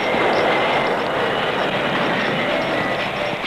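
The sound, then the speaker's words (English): A train rolls steadily along the rails, a loud, continuous rumble and rattle that holds at an even level throughout, with no break in the noise. “Stop that train!”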